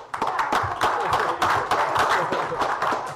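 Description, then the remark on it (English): An audience breaks into applause for the borough's new police chief, Gene Meek, many hands clapping in a dense, steady patter that holds at an even, fairly loud level for a few seconds. “Gene, would you please stand? Yes, give him a round of applause.”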